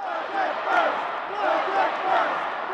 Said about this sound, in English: Though it was hard to make out what they were yelling from the House chambers where Rauner stood before lawmakers to give his speech, all throughout it, demonstrators were just outside chanting for a budget solution.